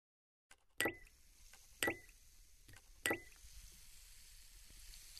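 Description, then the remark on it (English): Three sharp plops a second or so apart as Salpadine effervescent painkiller tablets drop into water, followed by a soft, steady effervescent fizz that carries on to the end, fairly quiet. “The sound of the Salpadine creating the bubbles.”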